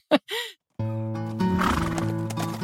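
A horse gives two short, breathy snorts, then a long, loud whinny that holds steady and swells near its end. No one speaks.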